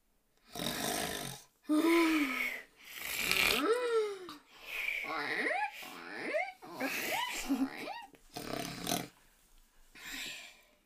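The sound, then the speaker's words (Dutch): Several men snore loudly deep in the night in a string of rough, rasping breaths, some ending in wobbly whistling tones that rise and fall, with short pauses between snores and no talking. “Diep in de nacht tot zelfs de laatste mannen hun ogen niet meer open kunnen houden en er alleen nog maar gesnurk klinkt.”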